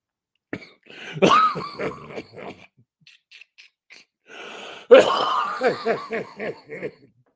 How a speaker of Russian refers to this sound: Я прошу прощения за кашель.